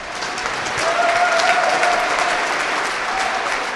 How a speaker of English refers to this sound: It's a short walk to the thundering applause of hundreds of men and women in uniform.